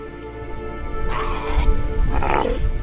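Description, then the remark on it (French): An Australian sea lion, a protected species, on Kangaroo Island in southern Australia calls out twice, a drawn-out, throaty bark followed by a second rising groan, loud over a steady low background rumble. “Kangourou, située au sud de l'Australie, véritable paradis animal, où l'on croise des kangourous bien sûr, mais aussi des koalas, des ornithorynques, des otaries à fourrure et notre lion des mers, espèce protégée car en diminution depuis des années.”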